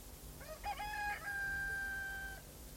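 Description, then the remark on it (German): A single rooster crows once, a rising call that stretches into a long, drawn-out final note, heard clearly over a low, steady background rumble. “Die Hunde schweigen und die Hühner räkeln sich träg im Staub.”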